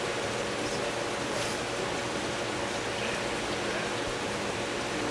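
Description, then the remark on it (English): A steady, continuous rush of water pours into a tank, a smooth hissing flow at moderate volume that holds constant throughout with no pauses and no voices. “I think we're just running less water to the tank and just slow away when I thought.”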